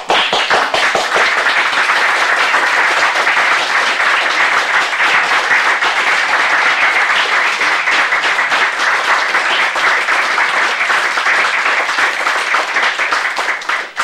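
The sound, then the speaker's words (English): Sustained, loud applause from a large group in a Senate chamber, dense steady clapping that holds at an even level for about fourteen seconds before easing off at the end, with no talking over it. “Just wanted to applaud you.”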